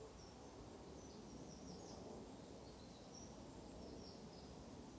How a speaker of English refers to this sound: this morning, there are a few birds in the tree, singing away their morning songs